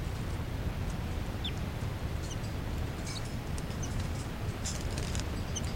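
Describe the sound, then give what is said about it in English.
Begging calls of a captive juvenile female bird, number 384, from a recording of captive birds: brief, high-pitched chips and squeaks repeating irregularly, faint above a steady low rumble of background noise. “That's 384 giving banging calls.”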